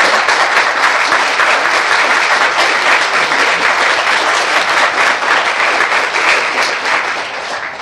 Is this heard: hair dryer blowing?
no